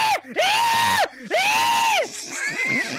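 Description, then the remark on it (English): A voice imitates a high-pitched, shrill shriek: two long, loud, arching screeches in quick succession, followed by a softer, wavering wail that trails off. “the baby is born, and its cry is that same high pitched shrill shriek.”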